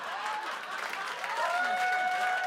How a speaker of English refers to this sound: A group sitting on a sofa claps.